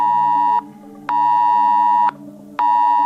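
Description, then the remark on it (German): A phone emergency alert tone blares loudly, a harsh, buzzy tone sounding in long repeated pulses separated by brief gaps, with no talking; it is a nationwide warning-day test alert in Germany, sounding at 11 o'clock. “So klang das heute um Punkt 11 Uhr auf meinem Handy.”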